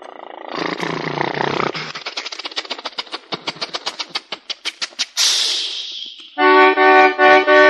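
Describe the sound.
A voice imitates a car engine: a rough rumbling start breaks into a rapid sputtering putt-putt that quickens, then ends in a whoosh and a loud, buzzy honking tone.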